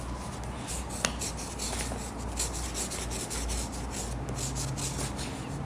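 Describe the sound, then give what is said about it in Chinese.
A grandfather writes the letter P with a pen, which scratches steadily across paper, a continuous dry rubbing texture with one small click early on; no one speaks. “你话公公写个 P 字好嘛？你知唔知写个 P 字啊？”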